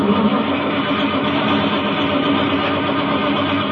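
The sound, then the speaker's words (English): A car engine in a driveway at night cranks and grinds continuously without catching, a loud, steady churning rattle that never turns over into running. No voices are heard. “This car's giving me a lot of trouble.”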